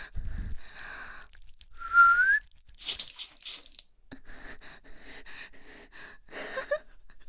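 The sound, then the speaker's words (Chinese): A soft, breathy whistle close to the ear with a brief rising tone, made to prompt someone to urinate, followed by a burst of hissy, splashing noise of urine spraying out like a fountain, and more faint, airy whistling. “小时候你不尿尿的时候也是这样子，在耳边吹口哨。”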